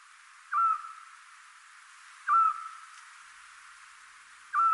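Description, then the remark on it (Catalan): A Eurasian scops owl, a very small owl, calls three times, each a short, clear, mellow whistled note spaced about two seconds apart, standing out alone against a soft, steady background hiss. “Doncs efectivament, això que estem escoltant és un xot, que és el meu mussol preferit, és un mussolet molt petit, que en lloc de fer un udol com fan altres aus nocturnes, altres rapinyeres”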